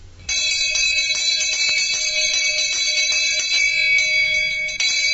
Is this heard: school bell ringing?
yes